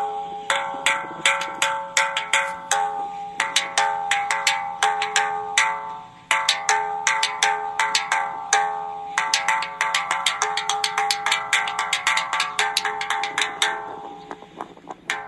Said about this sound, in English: There you have it. That's a gong from David Carradine's Kung Fu show David Carradine's Kung Fu show from the 70s.